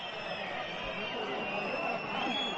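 A dense, steady roar from a large stadium crowd at a football match, with applause and scattered whistling blended into the continuous wash of noise, never pausing.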